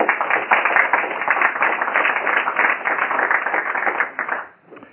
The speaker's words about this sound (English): On behalf of our board and shareholders, thank you, and give yourself a round of applause.